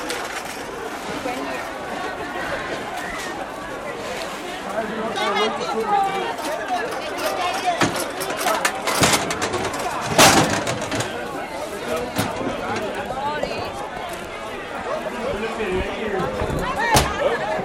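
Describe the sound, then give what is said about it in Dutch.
A busy crowd among a large number of mobility scooters fills the space with overlapping chatter and bustle, many voices mixing at a steady level with occasional sharper clatters and footsteps cutting through, continuous throughout. “Dat is wel een enorme drukte.”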